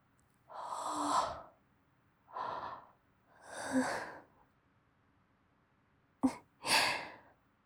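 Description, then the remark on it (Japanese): Breathy yawning: several drawn-out airy exhalations separated by short pauses, followed by a sharp intake of breath and one last sighing breath, with no talking. “あくび映っちゃいました。”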